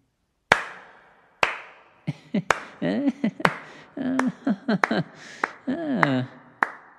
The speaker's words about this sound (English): Where did that clap come from? The jury might have wondered.